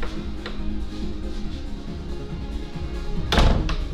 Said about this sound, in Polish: Teraz, proszę Państwa, wychodzę na korytarz, zamykam drzwi. Zamknąłem, wychodzę z powrotem.